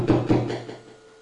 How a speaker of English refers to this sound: Imagine I'm coming and knocking in the door.